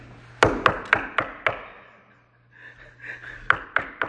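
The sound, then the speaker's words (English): Two bursts of sharp knocking on a wooden door: five quick raps, a short pause, then three more, fairly loud with a faint low hum underneath. “Okay, so Peter's banging on the door of the prayer meeting.”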